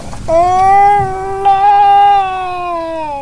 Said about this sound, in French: Des gémissements, des cris de souffrance.